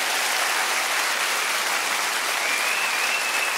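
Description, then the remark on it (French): An audience applauds steadily, a dense wash of clapping hands that holds at an even, fairly loud level throughout with no voices over it. “Bien sûr, vous pouvez vous applaudir.”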